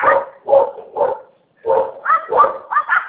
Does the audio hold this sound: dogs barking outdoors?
yes